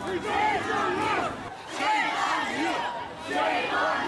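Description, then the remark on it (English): A crowd of Slavic Christian protesters lining the streets at Sacramento's Pride Parade yells in overlapping, strained voices, rising in three loud surges over about four seconds with brief dips between, shouting rather than clear speech. “Protesters lined the streets, yelling and holding professionally printed signs that say in bold red letters, "Sodomy is sin, and don't sodomize our children."”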